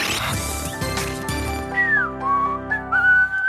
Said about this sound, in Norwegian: Det er jo ganske god plystring.